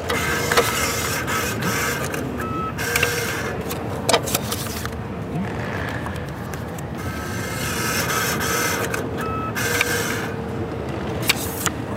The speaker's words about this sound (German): Das hier ist zum Beispiel ein Fahrkartenautomat, an dem man gerade ein Ticket zieht.